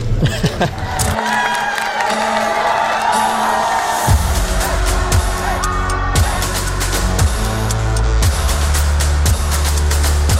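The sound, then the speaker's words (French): A dense roar of crowd noise, with cheers and shouts, rises over a pounding rap beat whose heavy bass thumps land in a steady rhythm. Everything stays loud and continuous throughout. “Du rap, une foule en délire, les coulisses d'un tournage.”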